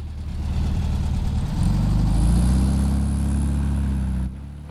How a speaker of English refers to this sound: The Beetle, driven by a man in a large Stetson, pulls out and passes the stationary car.